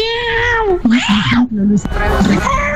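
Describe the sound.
A human voice imitates a cat, giving about three drawn-out, whiny meows in a row, fairly loud, with rising and falling pitch bends and no other talking.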